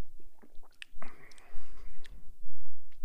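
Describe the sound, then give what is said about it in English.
Sipping and tasting a grape drink: a few small lip smacks and mouth clicks, then a soft slurping sip lasting about a second, followed by quiet smacking as the drink is tasted. “It's bougie communion? Sip, sip.”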